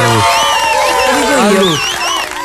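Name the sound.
audience applause and cheering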